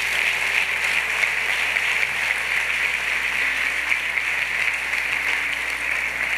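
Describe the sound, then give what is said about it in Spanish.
An audience applauds loudly and steadily, a dense wash of clapping that holds at an even level for several seconds with no voices standing out. “Dale un aplauso fuerte, ¿sí?”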